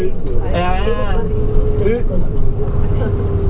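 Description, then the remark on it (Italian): The engine of a fully booked coach bus heading to Bergamo drones steadily from inside the cabin, a constant low rumble with a faint steady hum, while people talk over it. “Stavolta forse è la prima volta che completo il pullman.”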